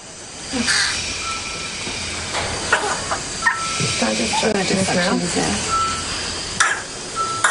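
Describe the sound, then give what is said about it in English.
A 7-week-old baby boy with whooping cough, in hospital, coughs in a rapid string of harsh bursts, then gasps with raspy, crowing breaths while struggling to breathe, while faint electronic beeps and a steady hum continue in the background. “What started as a runny nose and a slight cough has become frightening episodes where he's struggling to breathe.”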